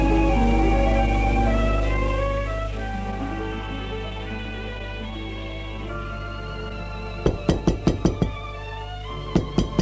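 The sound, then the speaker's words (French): The maid knocks sharply on Monsieur Jules's door in the morning over soft background music: a quick run of five or six raps, a short pause, then a couple more knocks. “On a frappé à la porte.”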